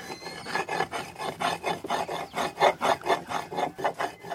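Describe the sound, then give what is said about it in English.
A woman grinds dry cacao nibs back and forth into a paste as their oils and fats are released, a steady run of rough, rasping strokes repeating about twice a second, each a gritty scraping rub, with no voices. “And very quickly, we see this amazing reaction, those powdery dry nibs, that smoky aroma being released, is being converted into a paste as the oils and fats are released, causing this mixture to be bound together.”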